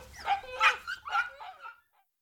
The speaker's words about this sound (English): A dog. What a noise!